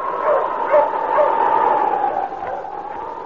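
A dog, King, Sergeant Preston's wonder dog in the Yukon, barks and yips several times in quick succession over a steady, continuous rushing noise that fills the background throughout.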